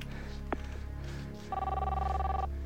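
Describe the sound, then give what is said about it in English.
A phone rings on an outgoing call to a mother's cell phone: after a faint click, one steady electronic ringback tone sounds for about a second, clear and even, with no voices. “I thought I was calling my mom's cell phone.”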